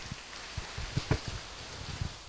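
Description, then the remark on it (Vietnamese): Quiet, scattered applause from an audience welcoming a Buddhist nun to answer a question, with irregular soft claps rising briefly before fading out, no voices. “Xin vị dành cho tràng pháo tay.”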